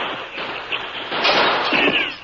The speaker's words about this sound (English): As bullets whined through the open window, Dude jumped.